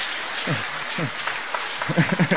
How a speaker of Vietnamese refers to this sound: Hoan hô, chúng ta cho một tràng pháo tay hoan hô.